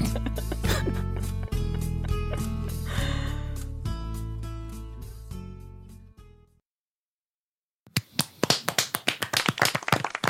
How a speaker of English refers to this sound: Yeah, we're really clapping this time.